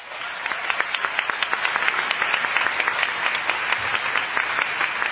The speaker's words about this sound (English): Let's give our panel a continued hand clap of appreciation for their thoughts, comments, passion, and dedication at work.